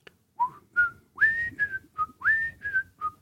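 cheerful whistled melody

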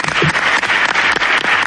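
applause

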